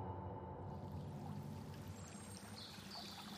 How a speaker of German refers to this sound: Draußen tobt der Frühling. Und das in seiner liebsten Lautstärke. Die Bäche sind endlich eisfrei und rauschen aneinander vorbei.